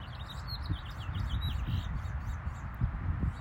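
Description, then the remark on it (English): Birds chirp and trill repeatedly outdoors in sunshine, their thin high calls layered over a steady low rumble of wind or ambient noise, with no one speaking. “Do you guys hear those birds chirping?”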